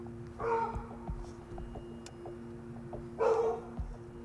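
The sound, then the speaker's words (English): Two separate barks from dogs in a junkyard, spaced a few seconds apart, over a steady low hum like an idling engine. “I don't know if I should get out. The dogs are over there.”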